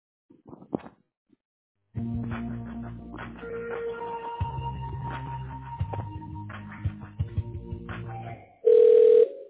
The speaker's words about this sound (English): Calling, that line is ringing.